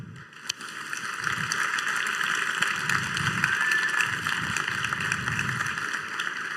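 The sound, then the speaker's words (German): A steady wash of audience applause after a presentation, many hands clapping densely and evenly for several seconds at a sustained, fairly loud level with no talking. “Erstmal haben wir mehr Zeit für Applaus direkt danach.”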